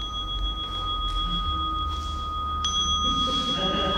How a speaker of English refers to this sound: Isn't that marvellous? I've got lots of other sounds too. And imagine my delight when I discovered that not only did it have a timer that dings, it's got free access to over 5,000 guided meditations.